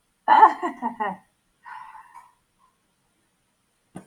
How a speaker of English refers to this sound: My dog's normally my shadow, but yeah, I've locked him out because I know when there's people in the house or when it's, you know, food time, you can smell it and he's in and out. So yeah, he's been locked out.